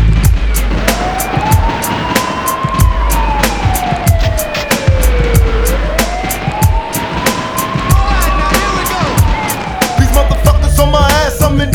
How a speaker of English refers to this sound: Is it a bust? I hear the sirens. Run for cover.